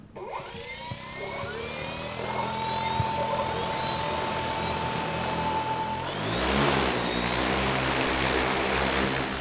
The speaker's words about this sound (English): His drones aren't toys. Tether box switch on. We're ready now for takeoff.